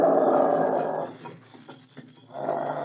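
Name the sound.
dog growling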